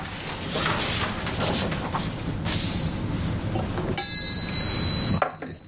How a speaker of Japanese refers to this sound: 今ね、向こうに見えてるんですよ。カトラリーのいい音がするでしょ。